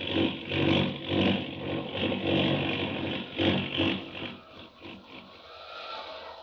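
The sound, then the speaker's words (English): An airplane engine roars steadily as the plane plunges out of control in a tailspin above the Rocky Mountains, a loud, gritty drone that surges and dips in waves before easing slightly toward the end. No one speaks. “We're going into a tailspin! We're plunging down!”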